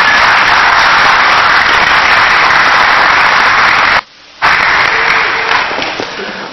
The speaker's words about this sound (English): Would you give these gentlemen a round of applause for helping out this morning? Thank you, God.